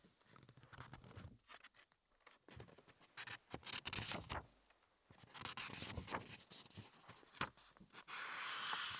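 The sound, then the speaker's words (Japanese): Crisp rustling and scraping of thick cover paper being handled, with bursts of crinkling and sliding strokes, pauses between, ending in a steady brushing rasp. “ちなみにもうちょっと厚くなってくると、これ今の表紙の、”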